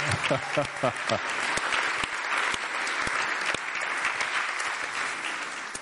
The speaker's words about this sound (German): da kriegst du mal einen dicken Applaus, weil er ist immer der, der ganz viel hilft.